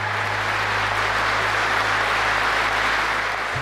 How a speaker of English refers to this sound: The State Duma, which is the lower house of parliament, when they heard that Hillary Clinton had conceded, they burst into applause